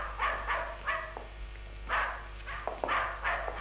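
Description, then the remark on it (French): Dogs bark excitedly in quick clusters of sharp yaps, several barks overlapping in bursts, moderately quiet, with no voices. “Les chiens sont déchaînés. Ils ne vont pas nous laisser dormir.”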